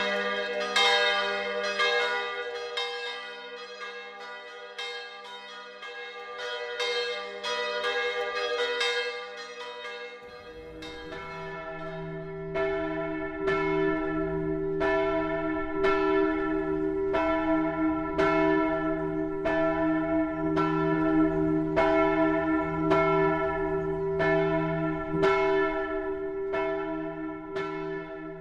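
Bells from the Manoušek bell workshop peal continuously with rich ringing overtones, a few strikes layering at first before a steadier, fuller chime joins around the middle and rings in a regular rhythm. No voices are heard.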